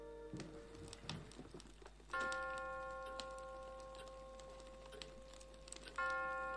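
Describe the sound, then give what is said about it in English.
A clock in a festively decorated room with a fireplace chimes twice, each strike a clear ringing tone with a long, slowly fading resonance, heard over soft ticking and faint clicks, with no one speaking. “As the clock chimes, the camera focuses in on the fireplace.”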